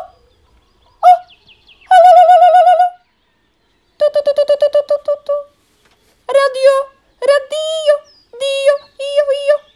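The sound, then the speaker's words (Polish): A human voice imitates a nightingale's song, with bursts of rapid warbling trills and pulsing notes in short phrases separated by brief pauses, fairly loud. “Pierwszy słowik zaczął tak.”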